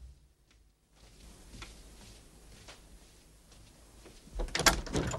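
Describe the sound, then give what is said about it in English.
A front door with a stained glass upper half being opened: after a near-silent moment, soft clicks and faint shuffling lead to a louder rattle of the latch and the door swinging open at the end. No one speaks. “A figure shows through the stained glass upper half of the door as Shirley goes to open up.”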